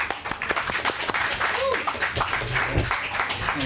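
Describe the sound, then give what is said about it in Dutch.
A group at a table at an Italy event applauds warmly to welcome a guest from Vino Veneto, with a dense, steady patter of many hands clapping for a few seconds. Faint voices murmur underneath. “En ik wil met een warm applaus hier aan tafel.”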